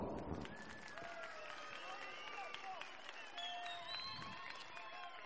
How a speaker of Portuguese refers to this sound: Batam palmas.